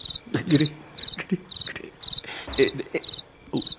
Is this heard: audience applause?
no